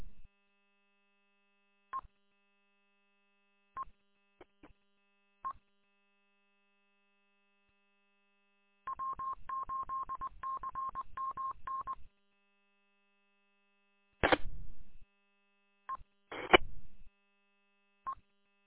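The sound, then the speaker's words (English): Scattered short electronic beeps over a faint steady tone, then a three-second burst of rapid warbling radio data tones and a few more sharp chirps, with no talking. “All I get is a whole bunch of beeps.”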